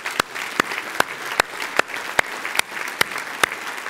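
An audience applauds the event staff, a dense wash of clapping with sharper, evenly spaced claps cutting through about twice a second, like a few people clapping in rhythm. No one speaks.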